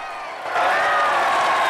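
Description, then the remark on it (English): A large outdoor crowd of thousands cheers in daytime in Westminster as a woman steps onto a roughly made outdoor stage. It is a dense roar of many voices that swells suddenly after a brief moment and holds loud and steady, with no clear individual speech. “steps onto a roughly made outdoor stage in front of thousands.”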